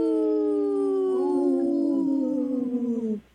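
A wolf pack howls together: long, steady, mournful tones that overlap and slide slowly downward in pitch, sustained loudly for about three seconds before cutting off abruptly.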